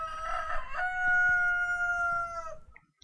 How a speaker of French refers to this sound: Comme un chant du coq.